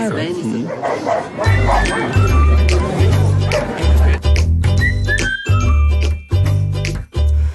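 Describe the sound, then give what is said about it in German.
Two dogs fighting, with a rapid, overlapping string of loud barks, yips and higher-pitched yelps that keep going without a break, plus a faint jingle of tags. “Guck mal, irgendwo streiten sich 2 Hunde.”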